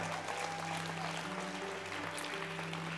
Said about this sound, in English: Come on, give the Lord a hand clap of praise.